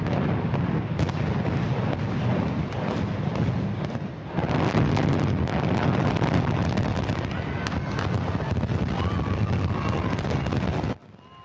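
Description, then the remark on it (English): A deep, sustained rumbling roar of the implosion of the vacant Keystone Towers high-rise in Indianapolis, a heavy continuous crash and boom with a fresh surge midway, then cutting off abruptly, captured outdoors with wind buffeting. “what's better, fireworks or a good implosion? A good implosion.”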